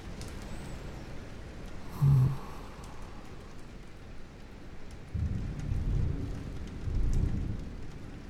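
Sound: rolling thunder with rain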